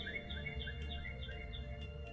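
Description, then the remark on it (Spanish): Birds flying from tree to tree among the branches sing in a quick, repeating pattern of bright, high chirps over a steady low background hum, with no one talking. “Escuche su canto.”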